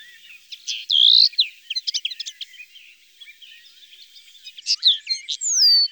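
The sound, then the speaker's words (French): A common linnet sings: rapid, twittering phrases of chirps, trills and short whistles, slightly metallic in tone, coming in two bursts separated by a brief quieter stretch, with no other sounds. “On entend maintenant une linotte mélodieuse.”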